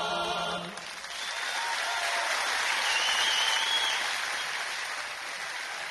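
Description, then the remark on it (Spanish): Sustained audience applause for a carnival choir made up of a selection of Uruguayan murgas, a dense, steady wash of clapping that swells after the first second and holds loud throughout, with faint tonal traces of the ending song, about 100 years old, at the start. “Aplausos para el coro este maravilloso carnaval, es un seleccionado de las murgas del Uruguay.”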